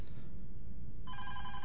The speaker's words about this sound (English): So here is our phone call we have. Hold on a second, folks.